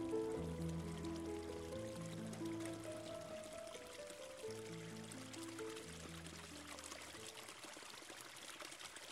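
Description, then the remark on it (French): The Bolbec river flows beside a footpath with a steady rushing and trickling of water, while sustained, gentle musical notes play over it throughout. “Empruntez le sentier à gauche et longez la rivière, le Bolbec.”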